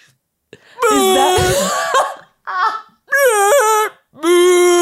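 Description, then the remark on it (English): Four loud, mournful brontosaurus calls from a film scene in which a man and kids in a tree look out at a field of brontosauri, long wavering harmonic wails with a short one between, rising and falling in pitch, with no talking. “Like, do you remember the scene where the guy is in the tree with the kids and they're looking out at the field of brontosauri and he's like, shh, they're singing.”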